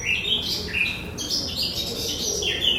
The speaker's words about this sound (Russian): Я сейчас открою окошко в ванной, чтобы вы могли услышать птиц. Вот так они поют каждое утро.